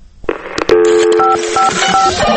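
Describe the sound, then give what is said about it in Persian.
A burst of electronic telephone tones from an answering machine holding listeners' messages: a clunk, then steady layered beeps with short bright tonal blips, loud with no voices. “اما باز هم اجازه بدیم در این قسمت از برنامه به صدای چند تا از شنونده ها گوش کنیم که روی تلفن پیامگیر ما پیغام گذاشتند.”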